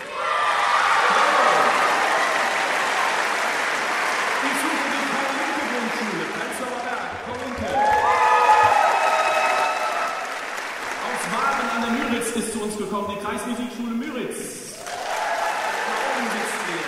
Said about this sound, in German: Und zwar, wenn ich jetzt den Namen eurer Schule nenne, steht doch kurz mal auf, winkt und schreit Hallo. Wo ist denn die Gemeinschaftsschule auf dem Campus Rütli in Neukölln?